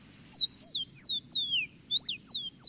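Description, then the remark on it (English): A rufous-collared sparrow, locally called Tico Tico, sings a series of about eight clear, high whistled notes, each sliding downward, in a steady rhythm over a low background hum. “And like so many birds, Tico Tico was named for its song.”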